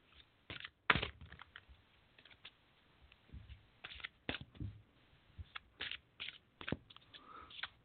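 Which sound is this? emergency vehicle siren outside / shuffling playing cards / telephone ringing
shuffling playing cards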